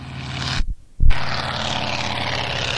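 A propeller aircraft on a flyby drones loudly with a rough, buzzing low hum and hissy wash, cutting out to near silence for a moment before roaring back steadily. No one speaks.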